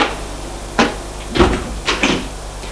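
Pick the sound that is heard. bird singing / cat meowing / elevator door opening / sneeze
elevator door opening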